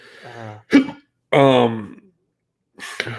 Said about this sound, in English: One time I had the hiccups for 3 days. I had to get a doctor for it. So hiccups are fun. They hurt bad. It's so bad.